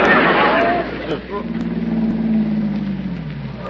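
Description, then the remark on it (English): A car engine hums steadily after a burst of broad rushing noise, its low drone holding and dipping slightly in pitch as the vehicle approaches. “Well, here comes that same car again.”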